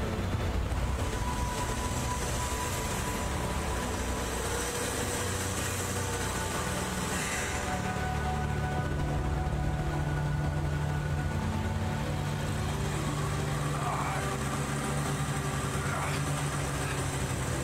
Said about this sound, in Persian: حسین ماشینو بذار تو دنده، گاز بده.